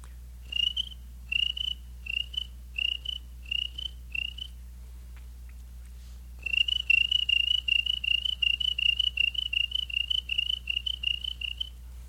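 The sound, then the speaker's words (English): Crickets chirp in steady, evenly spaced pulses, first in short separate bursts, then in a faster continuous run, against a low background hum. “Crickets.”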